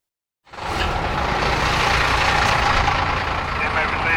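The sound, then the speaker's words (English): A prison transport bus, the Eastern Area bus carrying 33 inmates, idles at the receiving area with a steady, loud low rumble and broad mechanical hiss, starting abruptly after a brief silence and holding constant for about four seconds. “Be advised we have the Eastern Area bus with 33 inmates.”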